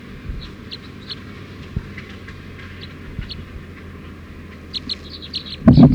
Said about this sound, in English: Wild bird going over the net. Stop. So wild bird went down for an approach, but went over the net again. Stop. Recording the wild bird.